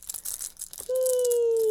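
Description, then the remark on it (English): A mother's keys jingle and rattle in quick, bright bursts for under a second for a baby, then a steady, high-pitched tone takes over and holds loudly until the end. “Keys. You love mom's keys.”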